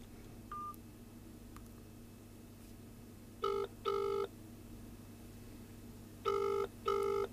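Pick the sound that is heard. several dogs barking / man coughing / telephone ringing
telephone ringing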